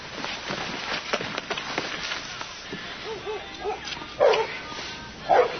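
Coyotes yip and warble over a rustling outdoor background, followed by two sharper, louder barks near the end.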